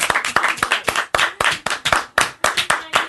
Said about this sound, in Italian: Vogliamo fare un applauso a chi? A Gesù. Dai.